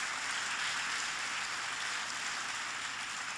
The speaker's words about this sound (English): Hilda deserves applause.